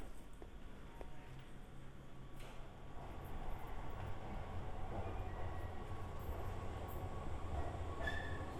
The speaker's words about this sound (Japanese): ちょうど電車が来たから乗るよ。